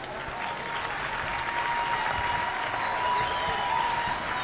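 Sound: audience clapping hands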